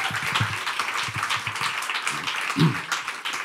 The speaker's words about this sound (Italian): Facciamogli un applauso, per favore.